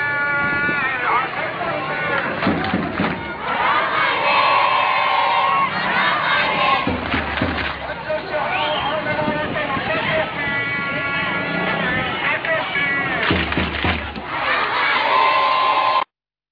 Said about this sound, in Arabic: إذن مشاهدي الكرام، كما نشاهد وإياكم ونستمع إلى هتافات أحرار خربة غزالة في ريف درعا الثائر، حيث أن هؤلاء الطلبة من أبناء مدينة خربة غزالة يخرجون في هذه التظاهرة الصباحية ليؤكدوا على مطلبهم المشروع بإسقاط نظام العصابة الأسدية